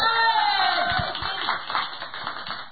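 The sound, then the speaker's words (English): An audience applauds: a dense, steady wash of many overlapping claps that holds at an even level for a few seconds, with some crowd voices mixed in. “Am I right by applause?”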